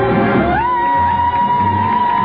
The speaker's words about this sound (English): They're cheering for him.